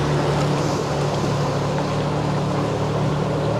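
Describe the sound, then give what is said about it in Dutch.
A boat's motor drones steadily and loudly with a low, even hum and a broad wash of water and engine noise as the boat passes under a small bridge, unbroken throughout, with no voices. “Gaan een bruggetje onderdoor.”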